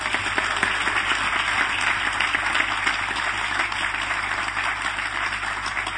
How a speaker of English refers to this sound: Had a round of applause for him.